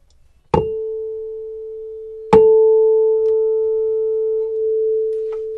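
A tuning fork on a box is struck twice in a resonance demonstration with a second box. Each sharp metallic tap gives way to a pure, steady mid-pitched hum that rings on loudly and evenly with a faint higher overtone, no voices present.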